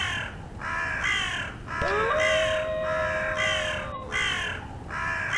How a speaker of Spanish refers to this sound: A sus pies soplaba el viento frío, aullaban los lobos, crepitaba la nieve y volaban las negras cornejas estridentes.